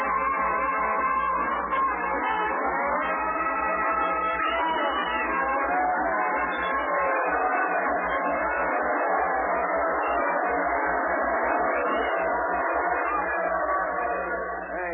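The band, a brass band, plays at the depot in Waukegan, Illinois, as the town gathers to see off a newly elected senator. It plays a steady, brassy tune without a break, the horns blending into a bright, full sound over a low background hum.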